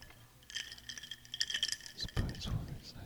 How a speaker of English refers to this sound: Tinkling the glass. Tinkling the ice on the glass.